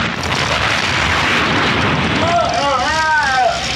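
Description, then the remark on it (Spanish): A dense, roaring wall of explosive noise from RL motorcycles exploding and disintegrating rumbles on without pause, loud, with a brief wavering, voice-like tone rising over it near the end. “Una a una, las motocicletas RL empiezan a explotar y a desintegrarse junto con sus ocupantes.”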